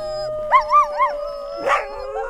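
Dogs howl in wavering, rising-and-falling tones that overlap, with a brief sharp yelp partway through before the howling carries on. No one speaks.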